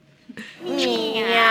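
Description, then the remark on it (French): A person imitates a cat, letting out one long, drawn-out meow that bends in pitch and rings clear after a brief sharp onset, on the Radio Sainte-Afrique talk show Le bar à chat. “Le bar à chat. Le talk chat de Radio Sainte-Afrique. C'est tout à fait chat. Miaou.”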